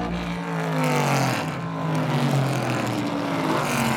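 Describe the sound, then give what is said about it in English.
A loud vintage race car engine roars steadily with strong harmonic whine, its pitch dipping and climbing as the car works through gears during practice and qualifying at Mazda Raceway Laguna Seca at the Rolex Monterey Motorsports Reunion, sustained throughout. “It's 550 authentic and historically correct race cars.”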